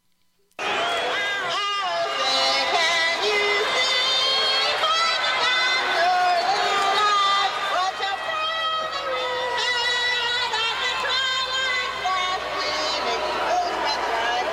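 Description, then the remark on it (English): A large stadium crowd at a 1990 San Diego Padres game roars and boos continuously during the national anthem, a dense wall of voices that starts abruptly and stays loud throughout, with a singer's voice straining somewhere within the din. “As you can tell, the crowd was booing her, even.”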